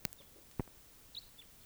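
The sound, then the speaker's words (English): A lone bird gives a few brief, high-pitched chirps spaced irregularly, faint against a quiet background, with two sharp clicks breaking in near the start. “Maybe just one bird.”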